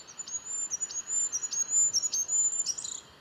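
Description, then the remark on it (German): Goldcrest song played back from bird songs stored on a mobile phone, in very high, thin notes, repeated in a quick regular rhythm roughly every half second, moderately loud over a soft hiss, with no voices. “Gesang des Wintergoldhähnchens.”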